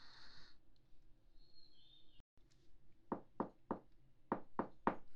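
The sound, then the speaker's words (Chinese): Firm knocking on a door, two sharp sets of raps: four evenly spaced knocks, a brief pause, then three more, clear against quiet surroundings. “是我，开门。我有点事情想要让你帮个忙，如果你还没有睡的话，麻烦开下门好吗？”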